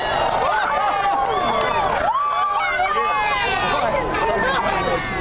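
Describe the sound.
A large crowd at the airport in Perryville, Missouri cheers and shouts continuously during a solar eclipse's totality at 1:18 p.m. Central Daylight Time, with overlapping excited voices, whoops and high-pitched yells, loud and sustained throughout with a brief dip midway.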